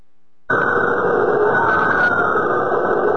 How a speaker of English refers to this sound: Oh, yeah, the scream right there in the background. Yeah. Oh, yeah, that's it.